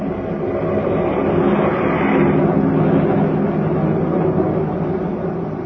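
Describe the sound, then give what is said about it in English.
A steady, loud drone of a fleet of airplanes flying far overhead in battle formation, a broad low rumble that holds evenly throughout with no voices. “Far overhead, a fleet of airplanes soars in battle formation, a jagged spearhead against the fleecy clouds.”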